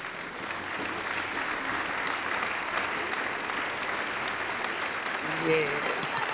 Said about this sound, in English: Well, let's clap this testimony up this morning.